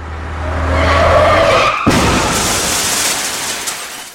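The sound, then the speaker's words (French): Loud, sustained tire skid with a rising squeal that ends abruptly in a sharp impact as a truck, whose driver had fallen asleep at the wheel, hits a car, followed by a broad crashing rumble fading out. No voices. “Le lendemain, la voiture des grands-parents fut percutée par un camion dont le conducteur s'était endormi au volant.”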